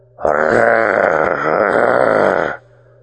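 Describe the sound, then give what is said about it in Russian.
A strained, rasping wheeze forced involuntarily out of a man's belly, one loud sustained guttural sound of about two seconds whose pitch wavers and dips before it cuts off abruptly, with no talking. “Рот скривился в гримасе, и хрипящий звук невольно вырвался из его чрева.”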